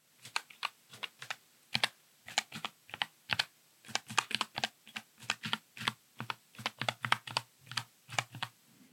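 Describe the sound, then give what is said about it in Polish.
Steady typing on a real computer keyboard, a continuous run of sharp clicking keystrokes in an irregular rhythm with brief pauses, heard alone without any talking. “A teraz prawdziwa klawiatura.”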